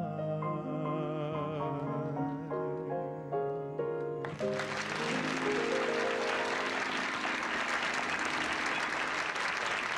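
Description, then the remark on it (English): A song's final sustained notes ring out, then an audience bursts into loud, dense applause for the two performers, continuing steadily for several seconds without fading. “Listen to the applause for those two folks here.”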